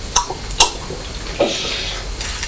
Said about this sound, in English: Oh, you make more noise drinking water than you do crunching crisps.